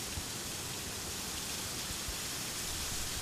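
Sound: waterfall rushing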